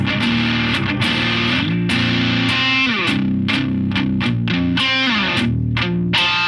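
A loud, heavily overdriven electric guitar through the RK side of an overdrive pedal with germanium clipping plays chords and riffs, its gritty, saturated distortion dense and continuous, with sharp attacks on each strum and no voices present.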